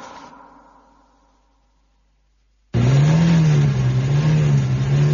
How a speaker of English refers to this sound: This is the most perfectly tuned car motor anybody's ever heard. You have to wait till night time to hear it. It only comes at night.